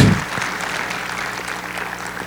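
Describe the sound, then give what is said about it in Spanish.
A church audience bursts into steady applause for the young people, a dense wash of many hands clapping at a fairly even loudness throughout, with no voices standing out above it. “Un aplauso a los jóvenes.”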